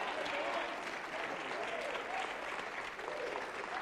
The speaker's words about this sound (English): Will you applaud your Heavenly Father that you are sons of the living God?